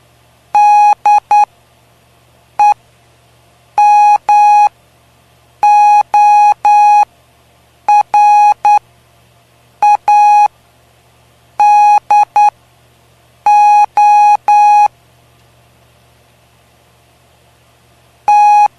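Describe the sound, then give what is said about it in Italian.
A steady electronic tone keys out Morse code spelling M-O-R-S-E, a clear sequence of short dots and longer dashes grouped into letters with brief pauses between them, loud over a faint hum. “M, O, R, S, E. Morse.”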